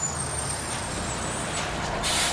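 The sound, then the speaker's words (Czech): A bus pulls to a stop with a steady engine rumble, then a sharp, loud hiss of air brakes bursts out at the end, with no voices. “Autobus staje, vrata se otvaraju,”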